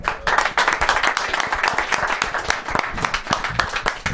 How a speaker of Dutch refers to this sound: Ja, top. Nou, applaus.